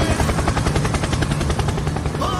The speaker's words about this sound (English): Helicopter! Helicopter! Helicopter!